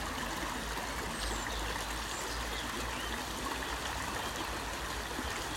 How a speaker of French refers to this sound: Et peut-être prenez aussi le temps d'écouter les bruits, les sons de cet audio. Les sons de la nature qui renaît. Le bruit de la rivière.